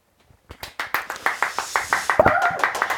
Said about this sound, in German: Applaus, Applaus